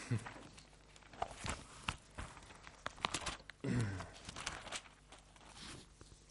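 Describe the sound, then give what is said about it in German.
Pages of a Bible are turned to find Matthew chapter 24: several brief papery rustles and flicks over a few seconds, with one fuller sweep of paper midway, fairly quiet. “Nochmal wieder blättern.”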